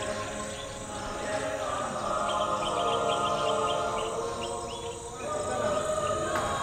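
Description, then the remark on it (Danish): Many birds chirp and trill in quick, high bursts, blending with a steady wash of powerful gospel singing from a church in a backyard, holding at an even loudness throughout. “Fra kirken i baghaven bag det sted, hvor jeg bor, høres en kraftfuld gospel, der blander sig med sangen fra de mange fugle.”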